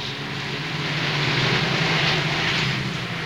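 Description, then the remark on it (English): A car with wide tail fins passes by on a busy street, a steady engine rumble and broad road hiss that swells gently midway through, then holds without fading. No voices are heard. “A car with wide tail fins passes him.”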